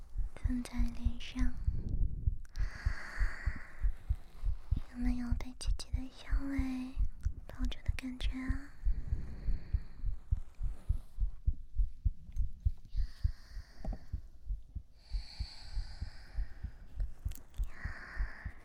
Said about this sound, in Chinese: 姐姐这样抱着，舒服吗？一边是心跳，一边是姐姐的呼吸。